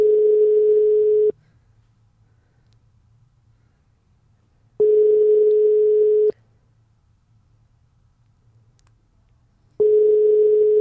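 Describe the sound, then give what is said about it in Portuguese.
A telephone ringback tone rings out three times during a call to a grandmother, each steady, clear beep lasting just over a second, separated by long silent pauses while the call goes unanswered. No one speaks. “Às vezes está a jogar e não me atende.”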